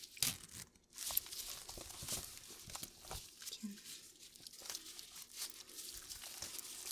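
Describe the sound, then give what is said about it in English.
A zipper rasps open and closed in short bursts at close range, with rustling and crinkling handling noise between the pulls and a brief spoken word. “Has the zipper.”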